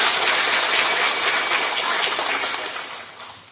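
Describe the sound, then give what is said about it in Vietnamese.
A crowd applauds in a dense, steady wash of clapping that holds strong for a few seconds, then gradually tapers off toward the end. No voices are heard. “Nếu chúng ta đồng ý, cho một tràng pháo tay nữa.”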